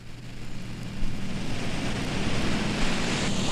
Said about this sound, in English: A new sonic world unfolds, and towards the end we surface to rediscover the waves, now surrounded by darting sound objects in a large reverberant space. In the distance, a foghorn.